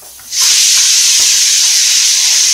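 A closed pressure cooker with khichdi of rice, dal and vegetables cooking inside whistles, bursting on suddenly and going on as one loud, steady, high-pitched hiss of escaping steam. It is continuous, with no talking.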